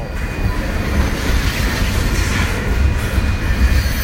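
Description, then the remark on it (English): A long train rolls slowly through the middle of a city at night, slowing down, a loud, steady rumble with low rattling and clatter from the cars that never lets up, with no one speaking. “Night, so I guess this is a good time to run a big long ass train through the middle of the city, but it's really cramped in my style right now, unfortunately.”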